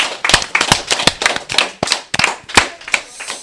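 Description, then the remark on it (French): An audience at an end-of-year school web radio broadcast applauds the students who created the web radio, many hands clapping in a dense, irregular patter of sharp, crisp claps, fairly loud and steady throughout, with no voices. “Et aussi pour les quatrièmes qui ont inventé la web radio il y a 2 ans, on peut les applaudir.”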